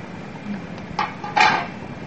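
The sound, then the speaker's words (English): A small metal frying pan, made from part of a battlefield canteen with a handle added, is handled, giving two short clanks about half a second apart, the second louder with a brief ringing tone, with no talking. “This makes a real nice little frying pan.”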